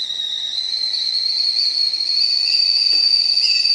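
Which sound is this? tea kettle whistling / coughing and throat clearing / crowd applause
tea kettle whistling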